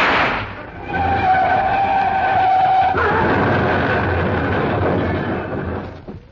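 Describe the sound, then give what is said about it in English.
A car driven by a chauffeur roars off along a road with a rising, whining engine note and a hint of tyre squeal, loud, then a steady rushing road noise that fades near the end. No voices. “The car started along the road once again and I took a wild shot.”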